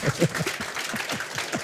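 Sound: applause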